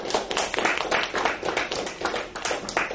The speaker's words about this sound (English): I'll stop. Let's give a round of applause for our speakers.